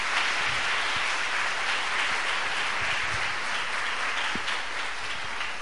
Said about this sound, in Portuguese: Dá uma salva de palmas para a igreja do Senhor Jesus aí.